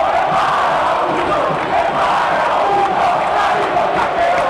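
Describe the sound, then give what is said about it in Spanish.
A huge crowd of Olimpia football fans roars, cheers and shouts in celebration of Olimpia's Tetra, its 44th title, after a 2-2 final, a dense, steady wall of voices that stays loud and unbroken for the whole stretch. “Cómo no dar rienda suelta al hincha de Olimpia, su emoción, al festejo, al grito.”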